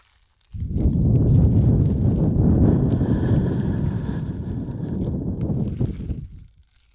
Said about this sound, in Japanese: ほら、触手の吐息感じるでしょう。